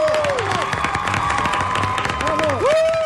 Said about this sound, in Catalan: Un fort aplaudiment pel Gerard Jubany!